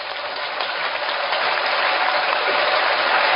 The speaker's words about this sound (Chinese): 鼓掌